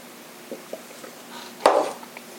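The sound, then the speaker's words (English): A quick slurping sip of Blue Run bourbon whiskey, preceded by a couple of soft taps, like a glass being lifted, with otherwise quiet surroundings. “Right, I'm gonna go ahead and sip this.”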